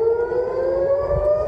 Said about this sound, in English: Rocket warning sirens sounded across Tel Aviv as tensions rise even more between Israel and Hamas.